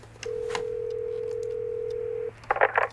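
signal or alarm, telephone number being dialed

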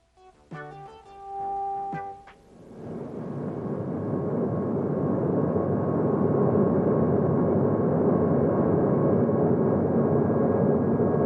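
vehicle, airplane in flight

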